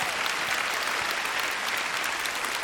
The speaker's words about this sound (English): The Lord Jesus Christ is coming back to this earth someday. That's the prediction of his return. That's a good thing to clap about. Amen.